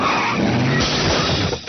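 A car tire going flat from a puncture: a loud, steady rush of hissing air over a low rumbling, flapping undertone, lasting under two seconds with no voices.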